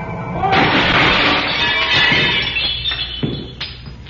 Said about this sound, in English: It's a guy on the grass. He fell right through a plate glass window.